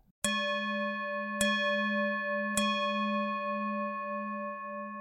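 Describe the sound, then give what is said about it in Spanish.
A mindfulness bell, a tool used in Buddhist settings as a practice of present-moment attention, is struck three times at steady intervals, each clear metallic strike blooming into a long, sustained ringing tone that hangs in the air without any voices. “La campana de atención plena es una herramienta que se utiliza en recintos budistas como una práctica de desarrollo de la atención al presente.”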